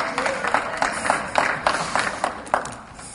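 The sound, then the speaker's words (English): An audience claps steadily, many hands striking in a dense, crackling patter with recurring sharper bursts. The applause holds a fairly even level for about three seconds with no speech over it. “I hope that clapping means that you're going to get mad.”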